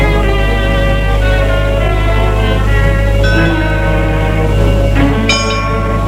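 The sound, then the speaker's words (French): Church bells ring loudly and continuously on a grey, humid day, their overlapping, sustained tones layering into a dense metallic wash, with fresh strikes cutting in now and then over a steady low hum. “Les cloches de l'église sonnent et donnent un peu d'été à ce décor lugubre.”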